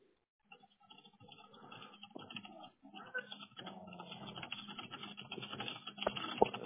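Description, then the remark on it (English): Rapid, uneven clacking of keys on a mechanical keyboard, continuous for several seconds, with a couple of sharper keystrokes near the end. “Also, I'm sorry, I have a mechanical keyboard.”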